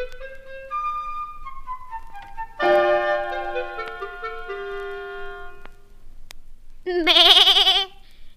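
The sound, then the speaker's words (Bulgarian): Goats bleat in three drawn-out calls: a long falling cry, a louder sustained one, then a high, quavering bleat near the end. No one speaks. “В нея живеели старата бяла коза и нейните 7 малки козленца.”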